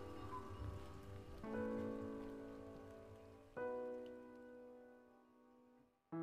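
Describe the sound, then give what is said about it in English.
Steady rain patters on a surface, a soft continuous wash with a few drips, while two low sustained musical tones ring out over it and slowly fade. “Only the drip, drip, drip of rain.”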